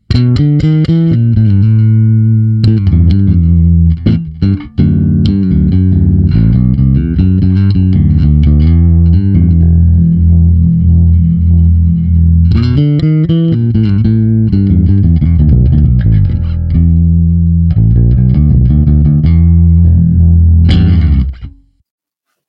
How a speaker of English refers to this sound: Okay, so you can hear that it's excited. The treble is getting that sort of fizzy, ampeggy sound going on there. But, you know, that's just those two things. Then I add in the compressor just as a finishing touch.